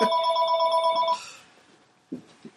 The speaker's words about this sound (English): Oops. That's my mother on the phone.